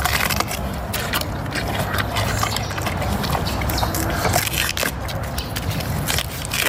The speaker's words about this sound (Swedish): Det här är alltså en kinesisk panda som äter bambu. Alltså det är så gott. Jag vet inte, sitta och lyssna på någon som sitter och slafsar sådär. Nej, men det låter så gott.